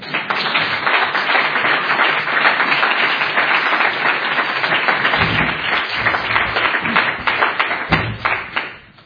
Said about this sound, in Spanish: Le damos un aplauso.